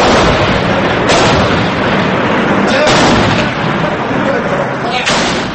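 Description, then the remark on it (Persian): Syrian army tanks shell the city of Homs, Syria, reportedly on February 10: heavy booming blasts ring out at intervals over a dense, loud rumbling background, with sharp bursts of shrapnel cracking through several times in a chaotic battle scene. “بنابر خبر دیگر، تانک های ارتش سوریه شهر حمص را هدف قرار دادند. صدای گلوله اندازی و ترکش ها در شبکه های اجتماعی پیدا شد که باور می رود از رویدادهای 10 فوریه ضبط شده اند.”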